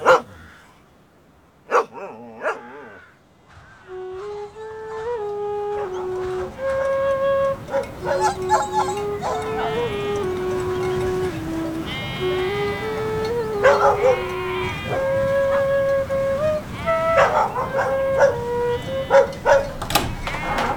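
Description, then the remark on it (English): Dogs, including a young dog, howl in long, wavering tones that rise and fall, while sharp barks keep breaking in. The chorus is fairly loud and continuous from start to finish. “And the young dog too!”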